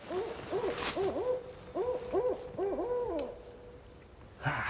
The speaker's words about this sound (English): Wonderful call again. There was a barred owl calling.